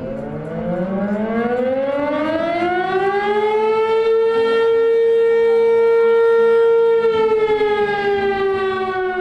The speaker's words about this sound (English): The deafening siren blares across the Carson Valley. For some people here, it's a reminder of the area's racial past.